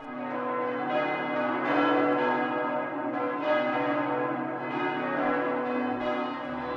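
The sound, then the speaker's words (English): Church bells ring continuously and loudly, their overlapping tones swelling with each new strike over a steady, resonant hum, with no voices present. “The bells began to ring.”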